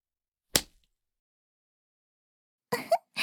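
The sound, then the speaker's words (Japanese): A riding whip, bought for horseback riding, lashes with a sharp crack, followed by a long silence and then two quick strikes in succession, with no voices. “このムチはお父様が乗馬用に飼ってくださったものなの。いい音がするでしょう。”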